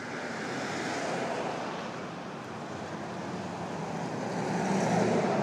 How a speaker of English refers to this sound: Suddenly a lot of activity has arrived all at once here. Cars driving past, people walking past, bicyclist, Uber, and it's just pulled up. Incredible.